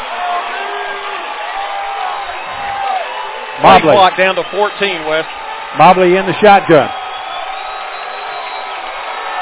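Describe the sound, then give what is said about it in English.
A dense stadium crowd at a football game, on its feet, cheers and roars steadily throughout, heard over a radio broadcast as a thick wash of noise with a narrow, radio-like tone, while an announcer talks over it in the middle. “Crowd on their feet. You can hear them over the radio, folks.”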